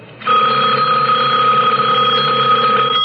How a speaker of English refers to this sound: The sudden ring of the telephone startled me. Laura was evidently sleeping too soundly to hear it.